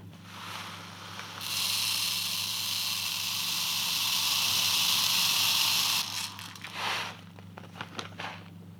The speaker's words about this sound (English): Yeah, I have these little tiny glass beads. They're 2 millimeters in diameter, and I'm going to pour them into the brain case until the inside of the skull is full, and then pour the beads out, and I'll measure the volume from the graduated cylinder.